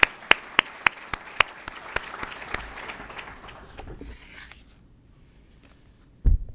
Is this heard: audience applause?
yes